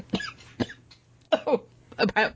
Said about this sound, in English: I just you coughed. But like it like caught me off guard. You coughed. I hate you. If I wish I could throw, I really would because it caught me way off guard.